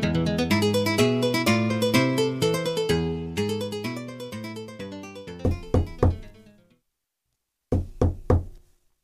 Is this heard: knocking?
yes